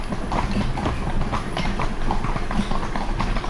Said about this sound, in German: Also wir wechseln hier immer munter zwischen Trab und Schritt, Schritt und Trab und haben schon enorm an Höhe gewonnen.